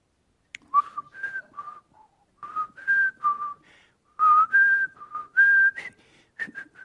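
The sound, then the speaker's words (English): Someone whistles a short melodic tune while waiting at a gas station pump, clear, with sustained pure notes sliding between pitches in phrases separated by brief pauses; no talking. “And I whistled that tune at least 5 times.”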